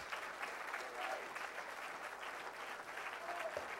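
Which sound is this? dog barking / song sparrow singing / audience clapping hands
audience clapping hands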